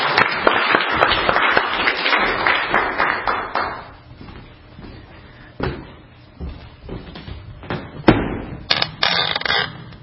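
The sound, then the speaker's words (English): An audience applauds a speaker being introduced as the first leader, in a dense burst of applause lasting a few seconds, which fades into scattered single claps and a few sharp knocks. No voices are heard. “I'd like you to please give a big round of applause for my dear friend and our first leader”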